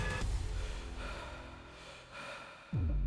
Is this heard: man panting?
yes